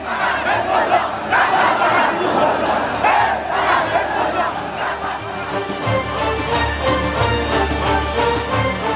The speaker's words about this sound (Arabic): وسط عاصفة من الشوق للحظة اللقاء، هبط الإمام بين حشود مستقبليه